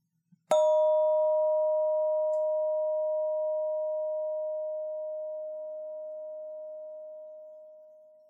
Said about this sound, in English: Okay, now I'm going to ring the bell again. It might be a short tone, or it might be a long tone, but we'll do the same thing. As soon as you hear the tone stop, raise your hand.